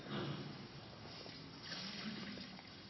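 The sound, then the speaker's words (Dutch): Water brought by children is poured steadily into a baptismal font at a baptism for about three seconds, a continuous splashing gush at moderate volume with no talking over it. “wil jij het water dat de kinderen van de kinderdienst hebben meegenomen in het doopvont gieten?”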